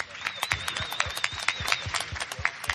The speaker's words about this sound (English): A massive torrent of applause from the press.